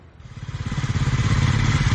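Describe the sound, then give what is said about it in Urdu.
A motorcycle engine, ridden by a female schoolteacher in Mirpur Mathelo, Sindh province, Pakistan, runs with a steady, rapid chugging pulse that swells louder over a couple of seconds, as if throttling up slightly. “اور اب چلتے ہیں صوبہ سندھ کے علاقے میرپور ماتھیلو، جہاں خود موٹر سائیکل پر اسکول آنے والی ایک خاتون ٹیچر اپنی طالبات کو سائیکل چلانا سکھا رہی ہیں.”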